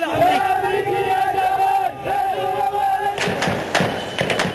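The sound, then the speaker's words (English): A large protest crowd at a rally chants in unison, sustained voiced tones rising and falling for about three seconds, then breaking into loud ragged shouts and bursts of cheering that fill the rest. “You're not listening to a rally at University of California at Berkeley.”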